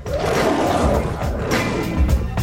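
roar sound effect

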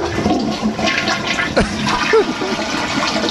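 toilet flushing

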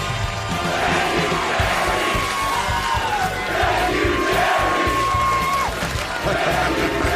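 stadium crowd chanting

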